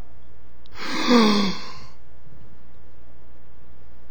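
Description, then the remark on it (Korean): A single drawn-out yawn, breathy and falling in pitch, lasting about a second, with quiet background before and after and no talking. “나는 분명히 하품을 안 했는데 옆에 사람이 하품을 하면 나도 모르게 어떻게 된다?”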